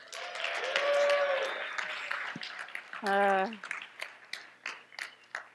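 An audience applauds and cheers for the youth pastor as she comes up to speak, steady clapping running throughout with scattered whoops and one loud, sustained cheering shout in the middle before the claps taper into scattered, sharper hits.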